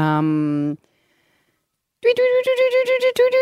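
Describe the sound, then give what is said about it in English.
A person imitates a fluffy-backed tit-babbler call, first with a short steady hooting note, then after a pause a quick rhythmic run of repeated, slightly nasal piping notes, fairly loud. “That's the fluffy-backed tip babbler. Do you want to have a go at the noise?”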